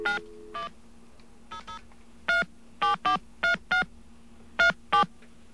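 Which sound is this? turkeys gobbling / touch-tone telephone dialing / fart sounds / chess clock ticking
touch-tone telephone dialing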